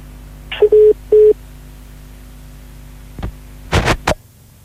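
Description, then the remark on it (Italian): While someone tries to restore a dropped phone call, two short telephone dialing tones beep in quick succession over a steady electrical hum, followed a few seconds later by several sharp clicks and crackles on the line. “Cerchiamo di ripristinare il contatto telefonico.”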